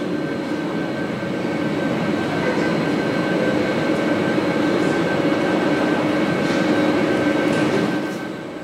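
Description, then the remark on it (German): A loud, steady rumble of a train moving through a railway station nearly empty of people on a Saturday evening in late April, with a sustained mechanical whine over the roar, easing off slightly near the end. No voices are heard. “Und was ist mit den Menschen, die der Bahnhof normalerweise als Schlafplatz nutzen?”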